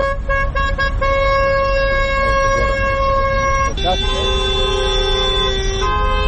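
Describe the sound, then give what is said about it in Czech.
Car horns blare in long, sustained overlapping blasts over steady street traffic noise, the pitch shifting partway through as a protest convoy of nearly 100 taxi drivers' cars moves through the streets of Podgorica at noon, with faint voices underneath. “Blizu 100 automobila kretalo se u koloni ulicama glavnog grada u podne kada je počela protestna vožnja, čiji su učesnici još jednom pozvali nadležne da riješe problem divljih taksista.”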